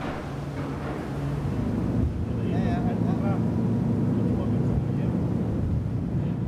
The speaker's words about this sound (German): Ein letztes Mal für heute legt Kapitän Stig Kaspersen mit seiner Fähre im Hafen von Langeland an